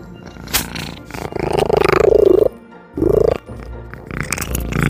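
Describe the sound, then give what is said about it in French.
A cat eats treats noisily, letting out low growling, grumbling sounds in two main bursts between chewing noises, with no talking. “Ça ressemble à moi quand je mange, mais moi, c'est plus en lion. Lui, c'est en chat.”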